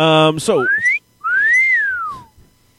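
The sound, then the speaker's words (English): A two-part catcall wolf whistle sound effect: a quick rising note, a brief pause, then a longer note that swoops up and falls away. It is loud and clear, preceded by a short voiced sound. “That's kind of cat calls you're going to get.”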